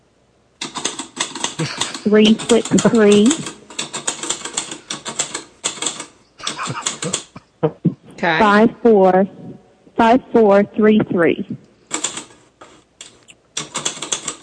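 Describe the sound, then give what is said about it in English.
Rapid bursts of sharp mechanical typewriter key strikes, a dense clatter in several runs with brief pauses, while people talk in between, as a phone number and an address are typed. “Let me get my typewriter.”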